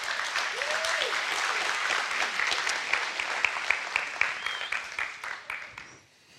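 A crowd claps steadily with scattered cheers and a couple of whoops over the dense applause, which thins into a few last claps before fading out.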